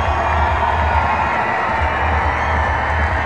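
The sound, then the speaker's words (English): A large baseball crowd, on its feet on a Friday night in the bottom of the 9th inning, cheers and shouts in a dense, sustained roar that stays loud and steady throughout, with scattered whoops rising from the mass of voices. “A good Friday night crowd on its feet.”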